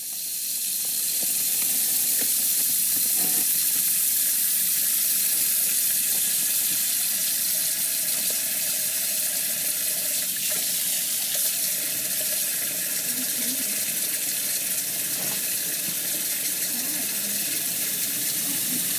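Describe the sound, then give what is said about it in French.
Water runs steadily during a three-day-old baby's first bath at the Ixelles maternity ward, the water at 37 to 37.5 degrees, a continuous bright hiss filling the whole stretch, with faint splashes and small knocks now and then but no clear talking. “Elle pose son téléphone pour enregistrer le premier bain d'un petit qui n'a que 3 jours.”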